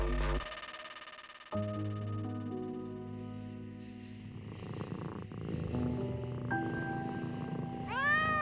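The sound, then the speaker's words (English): A cat purrs in a steady low rumble, with drawn-out meowing tones layered over it and a rising, wavering meow near the end. No one speaks. “There's something undeniably spooky about a black cat.”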